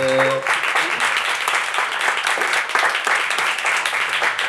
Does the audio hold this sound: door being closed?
no